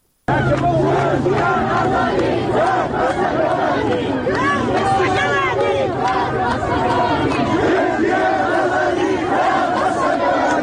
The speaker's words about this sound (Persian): در مراسم خاکسپاری کمال احمدپور که روز گذشته با شلیک مستقیم گلوله مأموران حکومتی کشته شد، مردم علیه جمهوری اسلامی شعار دادند.